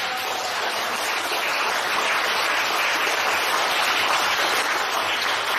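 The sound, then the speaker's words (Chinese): An audience at a talk claps steadily for the speaker throughout, a dense, even wash of many hands applauding at a constant loudness with no voices breaking through. “啊，那想想看，你们又上当了，又鼓掌，对不对啊？”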